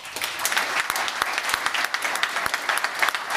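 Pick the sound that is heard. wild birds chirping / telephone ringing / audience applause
audience applause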